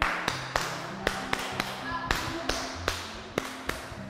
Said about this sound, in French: Très bien, applaudissez pour notre ami.